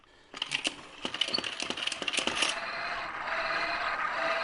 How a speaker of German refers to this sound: Ja, jetzt hört man ein bisschen den Zug. Genau. Das Zuggeräusch und dann geht das Signal hoch und die Schranke auf und zu und der kleine Zug bewegt sich da im Kreis.